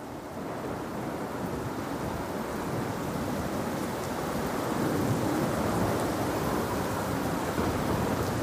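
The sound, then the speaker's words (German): Heavy rain pours down on a trench in a steady, dense roar with no breaks, running down the trench slopes, growing slightly louder midway and holding at full strength to the end. No voices are present. “Schwerer Regen prasselt vom Himmel, läuft an den Grabenhängen hinunter und reißt die Männer aus seinem kurzen Schlaf.”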